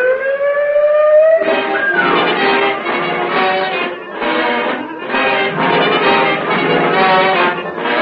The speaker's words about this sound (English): Buzz the sirens!